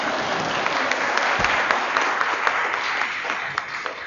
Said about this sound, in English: I would hardly call that tremendous applause for making a man disappear.